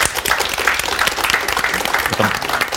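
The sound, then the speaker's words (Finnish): A crowd applauds steadily, many hands clapping in a dense, continuous patter at an even loudness throughout, with a few faint voices mixed in, at the Varjo Runeberg Prize ceremony in Porvoo after author Hannu Raittila is announced as the audience-vote winner for his novel Terminaali. “Aplodien paikka.”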